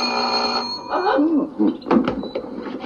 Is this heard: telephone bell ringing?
yes